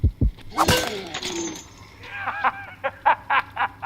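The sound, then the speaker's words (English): A frying pan strikes a zombie hard with a loud metallic clang and crash, then ringing clatter, followed by a quick run of short, evenly spaced bursts of groaning, voice-like sound. “Show me your most brutal side by beating him down with your frying pan.”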